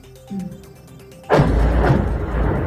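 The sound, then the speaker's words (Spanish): A sudden deep bomb blast in Ukraine erupts after a low, tonal hum, followed by a long, loud, rumbling roar that sustains to the end, with no one speaking. “En Ucrania también siguen sonando las bombas.”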